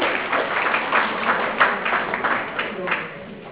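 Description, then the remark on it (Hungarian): A crowd applauds a tenth-time blood donor for a few seconds, a dense patter of many hands clapping at once, fairly loud and sustained, with a faint murmur of voices underneath. “szeretnék kérni egy napszak nagy tapsak”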